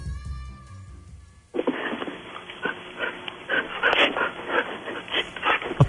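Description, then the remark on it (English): Rapid, breathy dog panting starts after a quiet moment and continues steadily in quick rhythmic huffs, fairly loud, with no talking over it. “You're panting.”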